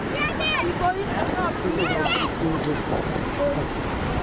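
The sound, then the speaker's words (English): A steady, roaring wash of Atlantic Ocean surf on the shore at the West Point slum in Monrovia fills the background, continuous and loud, while several voices murmur and call out indistinctly over it. “The raging sounds of the Atlantic Ocean gets more terrifying during the night.”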